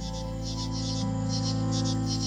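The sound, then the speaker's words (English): A loud, dense chorus of insects chirping at 6 o'clock on an October night, in rapid, rhythmic high-pitched pulses, steady and continuous over a low, constant hum, with no voices. “For a while, the insects were clicking and buzzing, and now they are chirping, and the sound is so loud that it's straining the light from the sky.”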